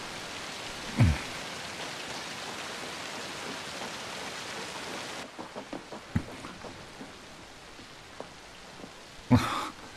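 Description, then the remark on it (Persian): Steady rain hisses down in a dense, even wash, then thins partway through into scattered drips and taps, with a couple of louder knocks; no one speaks. “انگار شما تنها کسی نیستین که تو بارون گیر کرده.”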